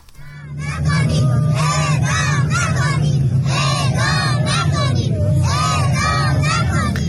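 A protest crowd of several hundred relatives of prisoners sentenced to death in Iran cries and shouts at once: some women cry and children shout "don't execute"; many overlapping voices, several high and wailing, rise and fall in loud, continuous bursts over a steady low rumble for about seven seconds.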